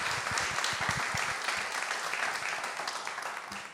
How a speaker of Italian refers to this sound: Passo la parola a Francesco, facciamogli un caloroso applauso